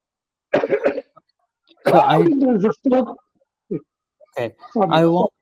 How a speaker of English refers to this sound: The problem is if I inhale it with a bit of intensity, I am getting a strain of cough.